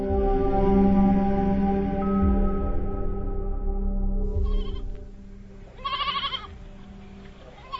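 Several goats bleat in overlapping, wavering cries, loud at first, then a pause and a couple of shorter bleats near the end. No one speaks.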